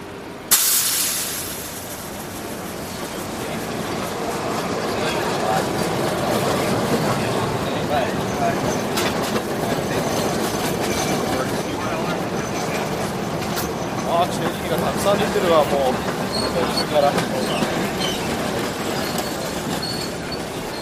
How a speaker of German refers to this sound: An der Ecke Market und Powell Street steigen wir aus dem Schacht der Nahverkehrsbahn die Treppe hinauf. Der erste Anblick, ein Gewirr von Autos, Bussen und Straßenbahnen.